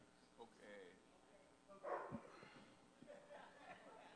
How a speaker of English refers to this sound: Okay. Is that an actual dog? Okay, well trained in terms of on how you can get them to bark. Wow.